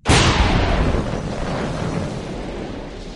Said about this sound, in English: Suddenly, the breath was knocked from his body. Solitaire and Bond went right up out of the sea before falling back again. The sky lit up with the huge explosion.